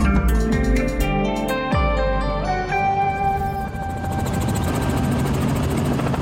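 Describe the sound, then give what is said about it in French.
An army helicopter flies over mountains in Lebanon, its loud rotor thump and turbine whine filling the scene steadily, with the engine pitch sliding and blurring into a broad roar toward the end. No one speaks. “Vous nous emmenez d'abord dans un hélicoptère et nous sommes au Liban.”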